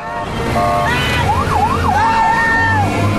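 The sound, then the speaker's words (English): A presidential motorcade speeds out of a studio lot, its sirens rising and falling in a loud wailing sweep over a steady rumble of engines, continuous throughout. “The presidential cavalcade speeds out of the studio lot.”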